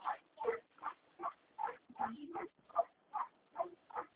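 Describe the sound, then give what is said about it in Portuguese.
A dog barks nonstop in a quick, steady rhythm, about a dozen sharp barks in a few seconds, sounding thin and muffled as if over a phone line. “Tem uma que não para de latir.”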